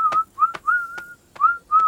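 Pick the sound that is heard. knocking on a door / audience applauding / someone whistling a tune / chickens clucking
someone whistling a tune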